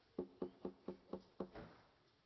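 Six steady knocks rap on a wooden door at an even pace, fairly loud, with one last softer, more muffled knock; no voices.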